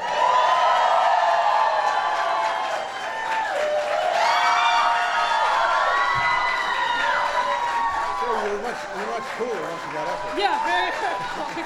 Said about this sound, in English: All right, everybody sit down. Settle down. There's a rowdy crowd as usual.